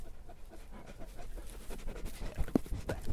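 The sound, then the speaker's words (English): A sheep-guarding dog with a long white coat pants heavily and rapidly right up against the microphone, with a few sharp bumps and knocks near the end as it nips at it. No one speaks. “He just nearly bit the end of my microphone off.”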